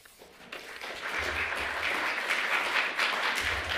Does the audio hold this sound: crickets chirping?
no